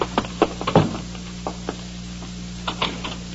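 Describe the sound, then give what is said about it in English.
Heavy pounding knocks on a house door by officers from the Provost Marshal's office, in irregular bursts, a flurry at the start and another near the end, loud over a steady low hum. “You don't need to knock the door down.”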